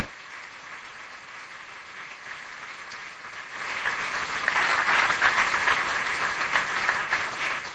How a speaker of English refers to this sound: Let's please give our panel a round of applause.